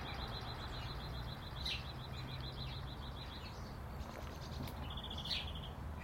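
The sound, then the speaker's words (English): Small garden birds, blue tits, chirp in rapid high-pitched trills, one long run of quick repeated notes and then a shorter burst, fairly soft over a steady low rumble of background noise. “More active than, I'm not saying they are more active, there just seems to be more blue tits about”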